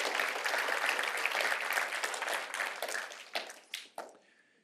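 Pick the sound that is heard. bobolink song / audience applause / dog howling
audience applause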